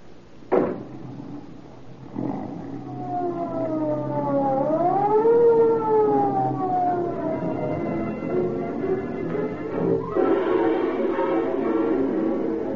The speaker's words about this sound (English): Although the police car starts its journey with siren screaming, it enters the neighborhood where Edna lives in silence.